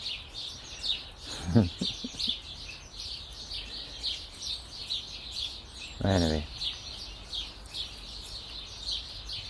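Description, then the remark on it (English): A flock of house sparrows chatters continuously, a dense, busy mass of overlapping chirps that never lets up, with a man speaking briefly twice over the top. “It's the house sparrows flock.”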